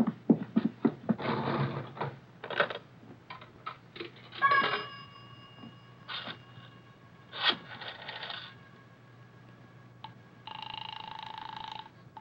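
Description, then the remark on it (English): Someone uses a coin-operated pay phone in a pay booth: handset clatter and scraping, coins dropping with ringing chimes, clicks, then a steady dial tone hums at the end. “Miss, I have to make a phone call.”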